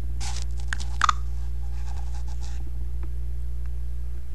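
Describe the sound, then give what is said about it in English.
Two quick, soft taps of a finger on a phone touchscreen, a double tap with the MobileSpeak screen reader to open the clock item, surrounded by faint scratchy rubbing on the glass, all over a steady low electrical hum with no voices. “And then it was quite fast in the sound feedback, and then MobileSpeak does give you sound feedback when you tap on the screen. I tapped twice, like that,”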